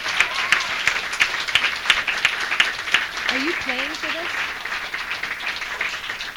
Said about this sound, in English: But we do love the coffee that we've had tonight. So let's give everyone who worked on this coffee house a huge round of applause, because it's been a great night.